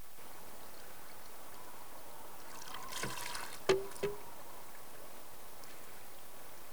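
Quiet, still surroundings where a soft burst of water spills and trickles into a garden pond feature as it fills with water, punctuated by a sharp hollow knock and a smaller echoing tap, then calm again.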